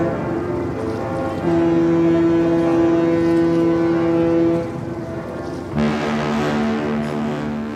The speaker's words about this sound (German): Ja, die Glocken des Michel, der Klang des Hafens, Heiligabend 2025 im Hamburger Hafen.